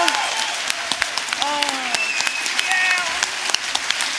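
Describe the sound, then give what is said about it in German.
An audience at Autokino Live 2018 in Dortmund applauds Cold Mirror steadily, a dense wash of clapping with sharp individual claps standing out, while a few cheers and whistles rise above it. “Ein riesiger Applaus für die großartige, bezaubernde Cold Mirror.”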